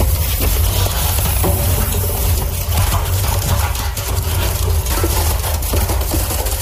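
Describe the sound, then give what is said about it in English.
A machine crushes and flattens wooden drawers, a loud, steady grinding roar with repeated sharp cracks and splintering over a deep mechanical rumble, with no voices. “And then they crush and then they get flattened and it sounds like this.”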